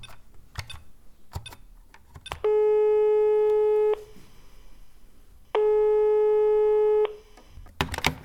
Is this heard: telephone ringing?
yes